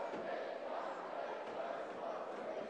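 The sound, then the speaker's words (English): A steady wash of arena crowd noise at an evening game in Albany fills the space, a dense, continuous roar of many voices murmuring and cheering at a constant, fairly loud level with no distinct words. “Good crowd here tonight.”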